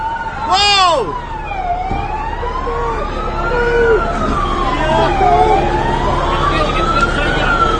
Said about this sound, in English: And then here comes a cop car. And watch how fast he drives through the crowd. It's like he's trying to run people down.